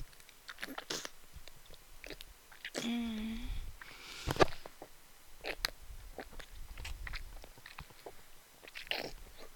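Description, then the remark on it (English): Wet mouth noises of sucking and slurping during oral sex: moist smacks, clicks and slurping suction in an irregular run, with a brief voiced hum partway through and no spoken words. “Sucking. Slurping.”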